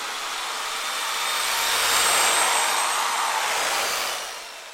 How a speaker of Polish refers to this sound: A ja włączam wiertarkę. Tylko uważaj, żeby nie trafić ani w kabla, ani w jakąś rurkę z wodą.